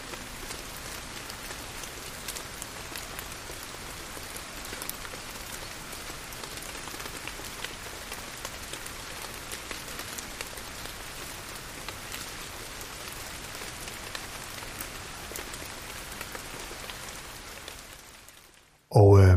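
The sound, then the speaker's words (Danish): Steady rain pours down in a continuous, even hiss of drops striking a surface, moderately loud, with no voices, until it cuts off abruptly at the very end. “Jeg ved ikke, om du, kære lytter, lagde mærke til det, men for mig giver det i hvert fald en ro og en fredfyldthed at lytte til den her regn, der siler ned.”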